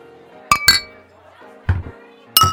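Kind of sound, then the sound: household object, glasses clinking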